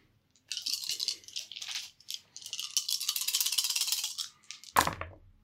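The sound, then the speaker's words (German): Five dice rattle and clatter for about four seconds in a busy, uneven stream of hard clicks as they are rolled for Cyclops's Optic Blast attack in a game, ending with one sharper clack as they settle. No one speaks. “Mit 5 Würfel Energie.”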